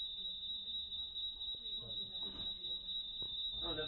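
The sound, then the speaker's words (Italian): A cinema's internal window alarms sound as a steady, piercing high-pitched tone that rings continuously throughout, with muffled voices and room noise underneath. “no, scusatemi, ma ci sono partiti gli allarmi interni qui per le finestre del cinema.”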